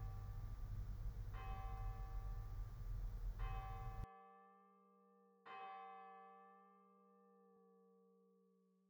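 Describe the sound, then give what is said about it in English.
A resonant bell is struck three times, each strike blooming into long, ringing overtones that linger and slowly fade; the first two strikes sit over a steady background hum that cuts out abruptly. “Be aware of your need and return to this whenever you hear the bell, becoming more aware again of your desire.”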